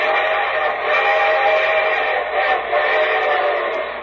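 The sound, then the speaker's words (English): A loud train whistle blows steadily for several seconds, its harmonic tones sustained over the rumble of an approaching train, with no voices present; the arriving show train that opens The Railroad Hour radio show. “And here comes the star-studded show train.”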